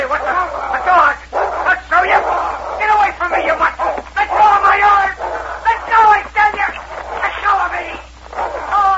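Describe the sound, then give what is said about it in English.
Dogs bark in a rapid, overlapping string of loud, mid-pitched yelps and barks that continue for the whole stretch, with excited voices mixed in. “If it hadn't been for that dog, you'd be laying out there in the snow with a bullet in your heart.”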